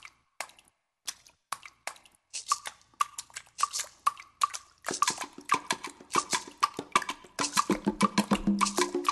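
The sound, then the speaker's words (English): Rhythmic water splashes and drips played as percussion by a jazz musician, first sparse and then quickening into a steady groove as a Latin jazz backing with a dance beat and Afro-Caribbean elements fills in underneath; no voices. “is using water as a percussion element. You can hear it on this track, for example.”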